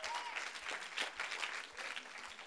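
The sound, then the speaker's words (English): People clap steadily as a clap offering to the Lord, a dense, continuous wash of applause at moderate volume that holds evenly throughout with no voices standing out. “And come on, give a clap offering to the Lord if you would.”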